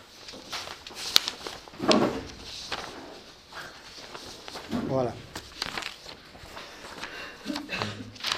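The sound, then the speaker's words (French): Crinkly rustling of papers being shuffled and sorted by a teacher during a class, with soft crackles, one sharp tap, and brief murmured vocal sounds in between. “On avait commencé à parler, je me retrouve des papiers”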